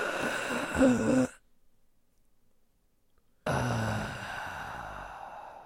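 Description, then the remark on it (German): Two loud, breathy rushes of air through an open mouth, separated by a couple of seconds of silence, sounding strained like heavy panting during exertion. “Ich sollte nicht durch den Mund atmen.”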